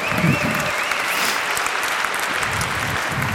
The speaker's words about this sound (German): Vielen Dank, Applaus.